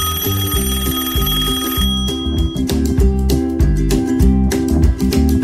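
A telephone rings with a steady, repeating electronic tone pattern, joined after about two seconds by sharp, rhythmic clicking bursts. The ringing stays loud throughout, with no one speaking.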